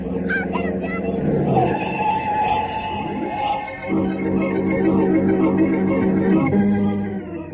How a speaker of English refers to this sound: Jane had grabbed little 11-year-old Leonard Chopra out of the path of the speeding car at the risk of her own life.